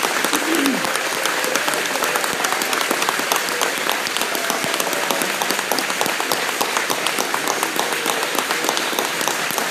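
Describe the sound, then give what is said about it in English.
A large crowd gives a clap offering to the Lord, applauding steadily for about ten seconds, dense continuous clapping at a loud, even level, with a faint voice briefly audible near the start. “Let's give him a clap offering tonight.”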